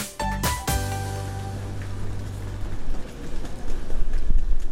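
A busy island train station with thousands of suitcases: a loud, sustained horn-like tone rings out first, then a steady rolling rumble of suitcase wheels and the bustle of crowds of arriving people builds and grows louder.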